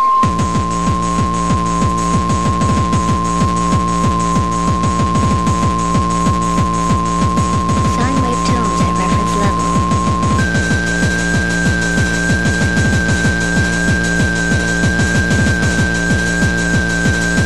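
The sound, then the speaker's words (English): A steady, loud sine-wave test tone at reference level holds for about ten seconds, then jumps to a higher pitch and continues, set against a dense, throbbing electronic texture with rhythmic pulses underneath. “Sine wave tones at reference level.”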